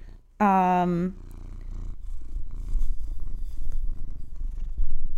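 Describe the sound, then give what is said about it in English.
A short, loud, tonal cat cry gives way to a steady purr: a low rumbling drone that continues for several seconds, swelling slightly louder toward the end. “A lot of purrs there.”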